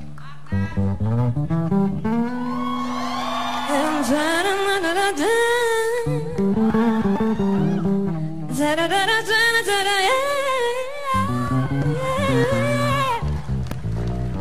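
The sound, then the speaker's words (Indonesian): A bass guitar plays a steady, melodic line of sustained notes with some sliding pitch, loud, continuing for about fourteen seconds with no talking over it. “udah ada bassnya, harus kita udah mainin”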